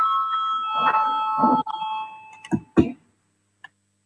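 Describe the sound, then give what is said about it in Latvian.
A parliament voting bell in the Latvian Saeima rings with a steady, bright electric tone for about a second and a half, calling a vote on an amendment, then stops, followed by a few short knocks and a faint click. “Lūdzu, zvanu, balsosim par 13. deputātu Stepaņenko priekšlikumu.”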